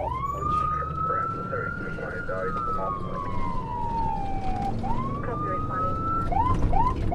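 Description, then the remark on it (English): An ambulance siren, responding to a call with lights and sirens, wails loud in slow rising and falling sweeps, then shifts to quicker yelps near the end, over a steady rumble of engine and road noise. “There's a big adrenaline rush when you know you have to go lights and sirens.”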